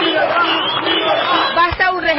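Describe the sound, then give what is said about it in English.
Thousands of Venezuelans protesting in the streets against President Nicolas Maduro shout freedom while waving flags, a loud, dense wall of overlapping voices that holds steady for about two seconds, with a few raised cries standing out near the end. “Thousands of Venezuelans hit the streets, waving flags and shouting freedom.”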